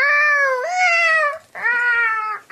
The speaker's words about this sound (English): What's wrong with the cat?